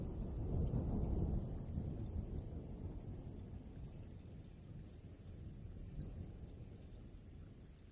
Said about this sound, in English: The storms last as they tend to this time of year. The tower is wet and dark, but the lightning does not strike nearby again.